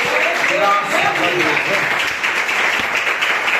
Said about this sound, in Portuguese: Vamos aplaudir ao Senhor Jesus nessa noite.